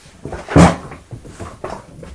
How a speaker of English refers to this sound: It's a funny noise, isn't it? A big blue balloon.